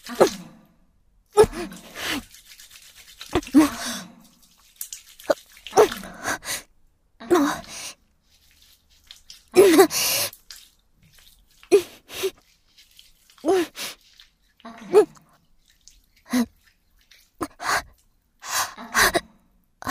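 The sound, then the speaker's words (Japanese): A stifled yawn comes out as a run of short, breathy gasps and sighs, uneven, repeating in bursts with brief silences between and no talking. “あくび上がってきた。”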